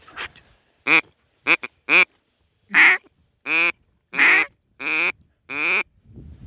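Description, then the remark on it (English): A duck call blown, sounding a series of about eight loud, nasal quacks in a steady, slightly uneven rhythm, with no talking. “I've got a duck call you can try that is sanitary.”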